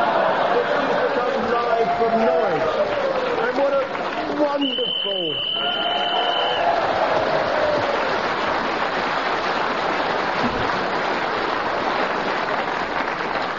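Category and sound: crowd, studio audience cheering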